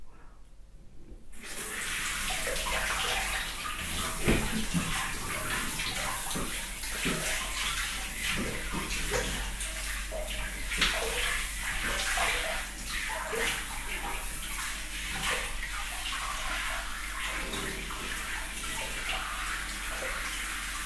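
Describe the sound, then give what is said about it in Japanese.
A steady rush of shower water sprays continuously after a brief quiet start, a dense hissing spatter that holds at a constant loudness to the end, as the shower is directed onto a person's body. “シャワー当てるよ。”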